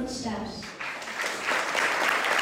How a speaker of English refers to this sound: But on July 17th, when the council held a public hearing for a ban on plastic bags and straws, the room was packed. Everyone applauded after 12-year-old